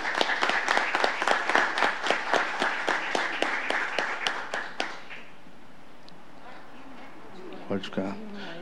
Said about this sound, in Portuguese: Pedimos uma calorosa salva de palmas.